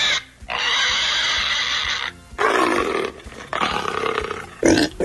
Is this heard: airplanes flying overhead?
no